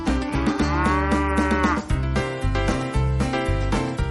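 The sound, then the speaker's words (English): Dairy cows moo loudly, one long drawn-out call followed by more lowing, over a steady rhythmic clatter and hum of the machinery of a rotary milking parlor holding about 72 cows at a time, on a dairy farm. “This is where the cows come to get milk.”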